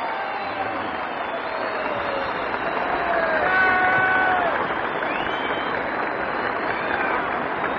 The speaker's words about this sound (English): Everyone here in the crowd is on his feet, and the speaker stands and in the plaza in front of the city hall. The general receives these awards and approaches the microphone, and here he is, Ike Eisenhower himself, and listen to that crowd.